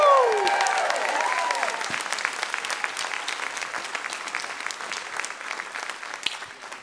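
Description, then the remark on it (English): A church audience applauds and cheers to welcome a guest pastor at a morning service, with dense, steady clapping throughout and a high whooping shout at the start, the applause easing off slightly toward the end. “This is not a golf clap morning, church. Join me in giving a victory shout out welcome”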